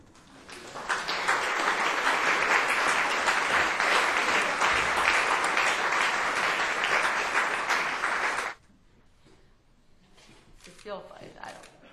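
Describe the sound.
A crowd bursts into sustained applause after a poem is read, a dense wash of many hands clapping for about seven seconds before it stops abruptly, leaving faint rustling and a brief voice.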